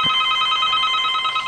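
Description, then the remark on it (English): A telephone rings for another incoming call line in a radio studio with a steady, bright electronic tone that holds unbroken for the whole moment, fairly loud and with no voices over it. “Okay, what do we got going here? We have another line.”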